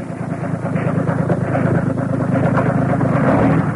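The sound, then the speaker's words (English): A truck engine rumbles steadily as the truck backs up, a low continuous drone with a slight rise in loudness as it keeps running, no voices present. “Attach it to the exhaust pipe of the truck.”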